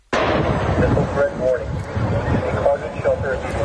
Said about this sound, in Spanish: El objetivo era la sede de la quinta flota de la Armada de Estados Unidos que alberga ese país. Este era el momento de una de esas explosiones.